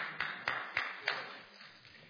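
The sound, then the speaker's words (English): A handful of sparse, scattered claps from an audience, about four sharp hand claps spaced unevenly with reverberation, trailing off into a quiet hum with no one speaking. “So you only got a few claps on that one because...”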